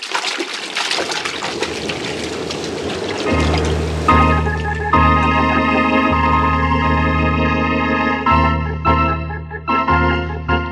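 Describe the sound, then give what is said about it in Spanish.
A loud, rushing splash as a person dives into water to swim underwater to a boat, giving way to a muffled underwater rumble with steady droning tones and faint bubbling that continues to the end. “Al agua. Bucearé hasta el barco.”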